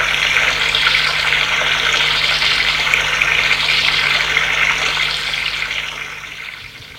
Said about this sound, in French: Se déshabille, prend sa douche